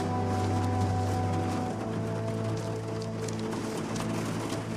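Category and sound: nature, rain falling at night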